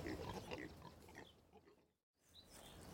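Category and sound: animal, pigs grunting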